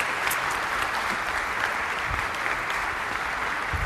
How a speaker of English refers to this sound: Let's give her one big more round of applause.